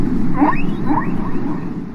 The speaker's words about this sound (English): And he wondered maybe if he was actually listening to whales. What made him wonder if it was whales, of all things? Well, this sound did not sound like something geological. It didn't sound like some underwater landslide or something like that.